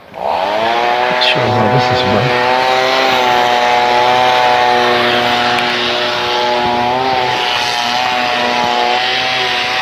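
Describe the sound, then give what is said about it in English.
A chainsaw-like power tool used by roofers drones steadily, its loud engine holding a high, buzzing pitch with slight revving wobbles throughout, with no talk over it. “Some roofers, of course, and then that sounds like a chainsaw”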